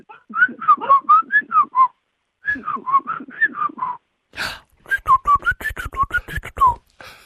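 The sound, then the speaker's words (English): A person whistles an imitation of a bird's call, a clear, lilting melody in three bursts of rising and falling notes, with short pauses between phrases and a breathy rustle before the last. “I've got a bird sound that I'd like identified, please.”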